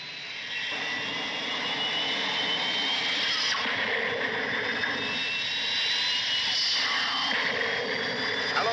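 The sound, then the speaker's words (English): A steady, loud spacecraft engine roar in flight through an atmosphere, with a broad rushing hiss and high whining tones that shift slightly, holding constant for the whole stretch with no voices. “Now we're really flying.”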